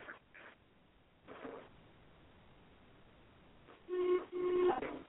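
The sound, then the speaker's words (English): A telephone on Robin Masters' private line at the estate rings with two short tonal bursts near the end, fairly loud, after a quieter stretch of muffled, hissy background noise. “why must you always call me on Robin Masters' private line when there are four other perfectly good phone lines into the estate?”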